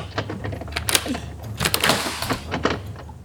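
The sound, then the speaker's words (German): A door being shut and locked, heard as a run of sharp mechanical clicks and clunks in an irregular sequence, moderately loud over a faint low hum. “Und schließt ab.”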